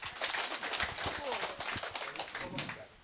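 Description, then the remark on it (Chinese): A small audience claps steadily for about three seconds, inviting a person to share their experience of practicing qigong, a dense patter of hands that holds even and fairly loud before easing slightly at the end, with faint voices mixed in. “就我很好奇啊，你讲你的心得一下来，大家赞成来，掌声。”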